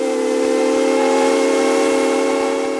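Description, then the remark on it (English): A large brass steam whistle atop City Hall in Flagstaff, used as an emergency warning signal, blares loudly and steadily, its rich chord of harmonic tones held at full strength without a break, with no voices present. “A large brass steam whistle, very much like the one used by the historic train between Williams and the Grand Canyon, only much louder.”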